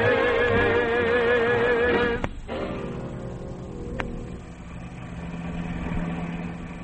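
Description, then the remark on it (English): The engine of a car said to belong to Frank Duvall runs with a steady, low rumbling drone that continues to the end, following a couple of seconds of wavering tonal music at the start. A sharp click briefly interrupts partway through. “Hurry, Chatsworth, and be careful with this car.”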